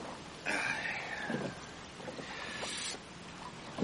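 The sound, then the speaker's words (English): Oars dip and splash through the calm water of Loch Rannoch as a boat is rowed in a few unhurried strokes, with a soft wash of wind and water noise in the background and no voices. “We're on Loch Rannoch now. Bonnie, no? If you tire of rowing, I'll take my turn.”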